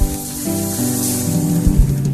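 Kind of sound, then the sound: crowd, audience clapping hands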